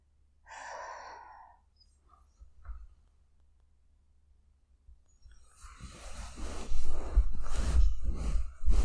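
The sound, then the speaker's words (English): A single short, breathy yawn with a soft voiced tone, then a quiet pause before loud rustling and shuffling noises take over to the end. “I'm tearing up so much from yawning.”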